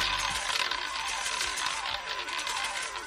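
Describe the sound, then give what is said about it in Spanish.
Coins pour steadily out of a casino slot machine, a dense, continuous metallic clatter and jingle that runs loud and unbroken for a few seconds with no voices. “No será ni el de la ruleta, ni será el de las máquinas tragaperras”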